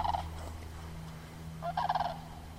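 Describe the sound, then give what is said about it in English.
Two bursts of rolling, rattling calls from sandhill cranes flying overhead by the Missouri River on an overcast morning, a short one at the start and a longer one later, fairly faint over a steady low hum. “The overcast morning I spent patrolling with her was pretty slow, so we had a chance to sit by the Missouri for half an hour while sandhill cranes and red-tailed hawks flew overhead.”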